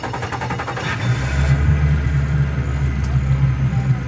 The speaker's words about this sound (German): der Cacique, also der Häuptling des Dorfs, startet das Motorboot und fährt flussaufwärts.